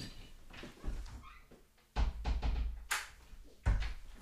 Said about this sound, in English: I may need to shut this door in a wee second because it's creaking.